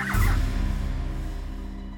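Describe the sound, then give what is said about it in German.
A parrot gives a brief, loud gobbling call right at the start, followed by a steady low rumble that fades slowly; no one speaks. “Sollte hier ein unschuldiger Vogel betrunken gemacht werden?”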